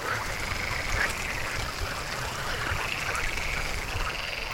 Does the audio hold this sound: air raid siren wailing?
no